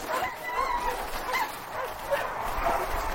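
A pack of 54 sled dogs pulling 4 sleds barks and yips in overlapping, excited bursts, with some higher whimpering cries mixed in, a busy continuous chorus, as five men in Eskimo fur clothing set out in the Antarctic spring on 20 October 1911.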